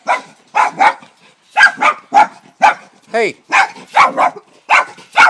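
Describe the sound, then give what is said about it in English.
Small dogs yapping: about a dozen sharp, high-pitched barks come in quick, uneven pairs and bursts, fairly loud, while a person briefly calls out once. “Oh, we've got two dogs here.”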